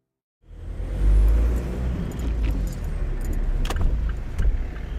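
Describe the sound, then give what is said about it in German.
Steady low rumble of busy rush-hour city traffic in Tirana on an early evening in March 2023, heard from inside a parked car, continuous and muffled, with a few sharp metallic clicks and jingles; no one speaks. “Es ist früher Abend, Rush Hour. Ilya sitzt in seinem Auto.”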